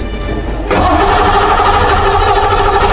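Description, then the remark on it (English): A retired Brinks armored truck used by police in Peoria, Illinois, cranks briefly, then catches and roars to life, settling into a loud, steady rumbling idle with no voices. “cops use an old Brinks truck to, quote-unquote, shame suspects”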